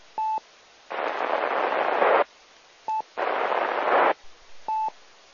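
A radio transmission swallowed by static: two bursts of loud, band-limited hiss, each lasting over a second, set apart by short electronic beeps, with a final beep at the end.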